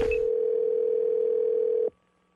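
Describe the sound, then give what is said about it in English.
A telephone ringback tone on an outgoing prank call, the caller posing as a company CEO, for the phone scam segment of The Wake Up Call: one steady, fairly loud electronic hum lasting about two seconds, then abruptly cutting off into near silence. No voices. “So I am calling as the CEO to say I am furious at what he put in that get to know section.”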